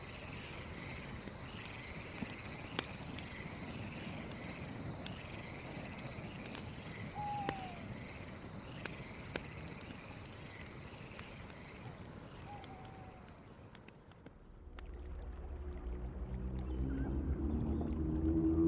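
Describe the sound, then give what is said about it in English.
Dense jungle ambience: a steady, high-pitched insect drone with scattered clicks and brief chirps over a busy hiss, giving way near the end to a low, rumbling hum. “Within moments, she's asleep, the gentle sound of her breathing soft against the violent ambience of the jungle.”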